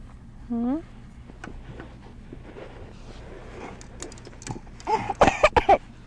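A child gives a few small, quick coughs in a short cluster near the end, after a brief high vocal sound and some quiet rustling and handling noises.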